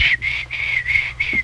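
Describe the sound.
A man whistles softly and breathily through his teeth under his breath, in a steady repeating pattern of short, quiet tones.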